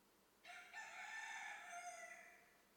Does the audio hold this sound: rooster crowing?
yes